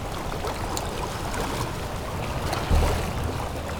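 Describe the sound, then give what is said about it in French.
Stormy, gusty wind rushes steadily over the Étang de Barandon pond, at 1,200 metres altitude in Lozère, France, surrounded by forest. Small waves lap and splash, with a brief louder low rumble of wind buffeting partway through. No voices. “Un vent tempétueux souffle. Créant ses vaguelettes.”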